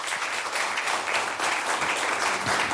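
Sustained crowd applause, a dense steady wash of many hands clapping at fairly even loudness for a few seconds, with no voices standing out.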